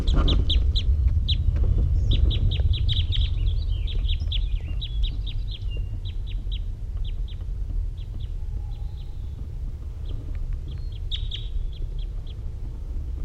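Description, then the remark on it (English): A wild bird calls from the trees in quick bursts of short, high-pitched chirps, pausing between runs, over a constant low background rumble; no one speaks. “This is a wild bird.”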